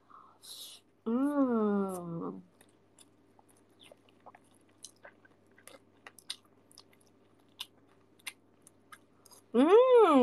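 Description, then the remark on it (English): Close, wet chewing of food including anchovies, with irregular soft crunches and clicks filling the middle stretch, bracketed by brief bursts of a person talking at the start and end. “Don't know if you can hear me chewing.”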